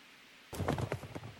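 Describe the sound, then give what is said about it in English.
Galloping horse hooves from horse racing pound in a quick, steady rhythm, starting abruptly after a brief moment of quiet and staying fairly loud. “We specialize in thundering hooves, fist pumping, and boosting your bankroll”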